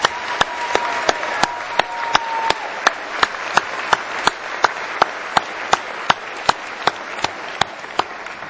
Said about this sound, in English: How about a round of applause one more time for these folks?